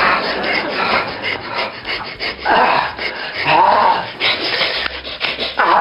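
A dog pants hard and fast, a steady run of raspy, breathy huffs that stay loud and continuous for several seconds with no voices over them.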